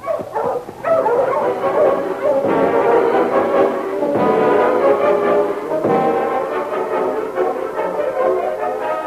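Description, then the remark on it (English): A pack of husky sled dogs, Sergeant Preston's team, barks and yips together in a loud, continuous chorus as they halt in front of Fred Wells' cabin in Seahorse City, with overlapping high-pitched cries and howls sustained for several seconds, no voices present. “Sergeant Preston halted his dogs in front of Fred Wells' cabin in Seahorse City.”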